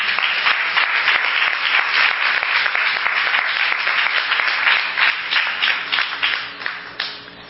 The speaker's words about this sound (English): God, clap your hands.